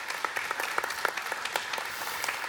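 An audience applauds with a dense, steady patter of many hands clapping at once, sustained at an even, moderate level with no voices or other sounds.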